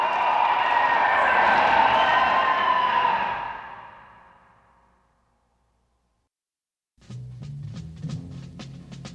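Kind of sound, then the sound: crowd, crowd cheering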